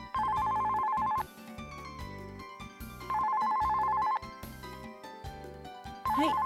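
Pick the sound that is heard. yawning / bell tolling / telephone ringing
telephone ringing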